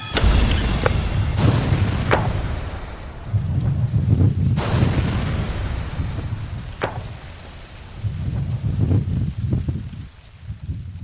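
A reconstructed car bomb, recreated by a bomb expert and a special agent, detonates in a loud blast, followed by another sharp burst and scattered cracks over a deep, rolling rumble that lingers and slowly fades.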